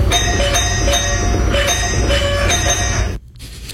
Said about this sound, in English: A woman in Tennessee has been met with a rather unwelcoming guest, a woodpecker continuously ringing her doorbell. She even caught some of the weird encounter on camera.